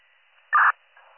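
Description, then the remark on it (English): A short, loud burst of narrowband radio static stands out from a faint, steady hiss, followed by a softer crackle of static at the end. No one speaks. “Again, it was off static.”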